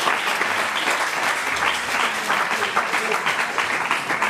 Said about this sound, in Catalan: Si us sembla, tot i que no han vingut, fem un aplaudiment també per l'Institut Carles Vallbona.